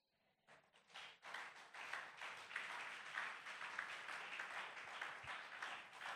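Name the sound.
audience clapping hands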